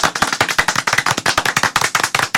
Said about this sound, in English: For the first three seconds, the EQ check happens like this. Okay. All of us together here, clap as loud as possible. Come on.